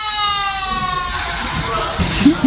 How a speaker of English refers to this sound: And it's just a silent library, and a kid smiles at the camera and releases the balloon in a silent library.